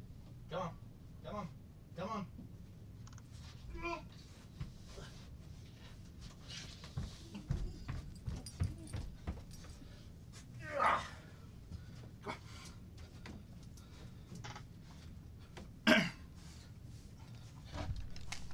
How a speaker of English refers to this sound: It is thundering at my house, and my dog is terrified. So she's clawing at the door to get in the basement.